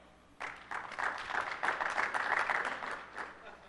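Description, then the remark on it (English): An audience at a software presentation bursts into applause, a dense spatter of many hands clapping that rises quickly and holds steady for a few seconds before tapering slightly, moderately loud. “That also got applause in the intro session, and I feel cheap for stealing that again.”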